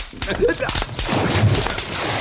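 A handful of sharp, booming shotgun blasts from a KS-20 fire in quick, irregular succession, loud, over a dense, noisy background.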